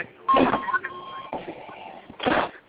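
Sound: door being closed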